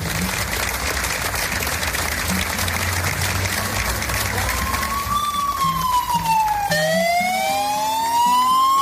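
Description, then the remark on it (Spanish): Madrid fire engine sirens wail loudly over a rumbling engine at the Madrid Fire Department headquarters in the morning, sounded by firefighters in tribute to their colleague Alberto after a minute of silence; their rising and falling tones overlap as several vehicles sound together, with dense traffic noise. “Sus compañeros han guardado un minuto de silencio y han hecho sonar las sirenas en homenaje a Alberto.”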